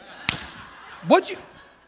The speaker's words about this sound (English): Right? I think we need a lot more mama hand slaps on social media. It's getting crazy.